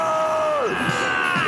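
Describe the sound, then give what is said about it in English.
A man in a film lets out a loud, wacky scream that holds a strained, nasal tone, then drops sharply in pitch partway through and wobbles on, sustained for the full second and a half. “That's a fucking wacky scream he does.”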